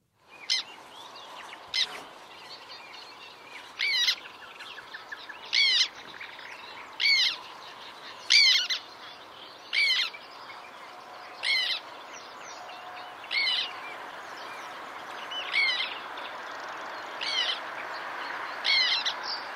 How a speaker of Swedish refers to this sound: Ja, men så vad var det där för gnisslande läte man skulle lyssna efter om man är på en svarttärnelokal? Jo, det här.